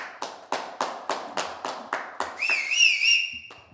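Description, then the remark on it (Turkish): A small group of three people claps in a steady, sparse rhythm, then shrill whistles break out over the applause, wavering up and down before fading, leaving a last lone clap. “Allah'ım ıslıklar, 3 kişinin alkışlaması eşliğinde.”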